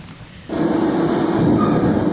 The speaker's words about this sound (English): Trains are relaxing.